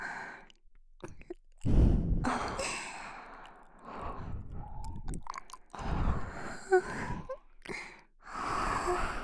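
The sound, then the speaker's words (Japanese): Deliberate burps come in a few low, throaty bursts, mixed with soft breathy sighs and exhalations between them. No words are spoken. “性欲煽れれば何でもいいって感じのドスケベ特化のエロゲップ。吐息も混ぜて。”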